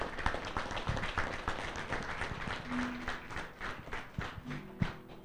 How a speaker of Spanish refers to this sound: Y un aplauso para recibirla a nuestra madre acá en las instalaciones de la radio.